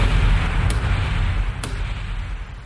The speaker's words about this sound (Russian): Шварц сдернул карабин, и молчаливые, раскинувшиеся на многие мили вокруг болота, содрогнулись от оглушительного грохота.